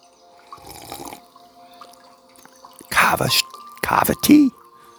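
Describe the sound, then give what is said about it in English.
Kava tea being poured: two short, splashy bursts of liquid streaming into a cup, following a quiet stretch with faint dripping and low background sounds. “Kava tea straight up, and we're ready to go.”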